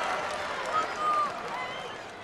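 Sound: stadium crowd cheering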